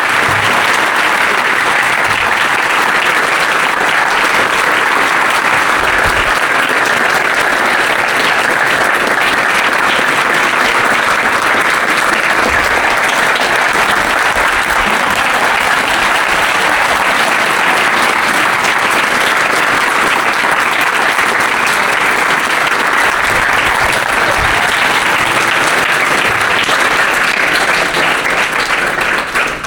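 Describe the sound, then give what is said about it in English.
A large audience claps loudly and steadily for about thirty seconds after a thrice-chanted "Hari Bol" thanking His Holiness Satchidananda Swami, a dense, sustained wash of applause with no break or fade and no voices standing out above it. “followed by a massive round of applause.”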